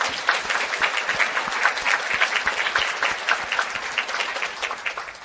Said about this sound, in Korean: 아무리 돌이켜보아도 형편없는 미물에 지나지 않건만 그래도 우리를 버리시지 않고 우리와 동행해 주시고 오늘이 있기까지 우리를 인도해 주신 삼위일체 하나님께 먼저 찬양과 감사의 박수를 올려드리겠습니다.